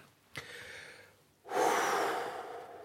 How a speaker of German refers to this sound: Weißt du, was den vermaledeiten Hicks noch vertreiben soll? Was denn? Tiefes, ruhiges und gleichmäßiges Atmen.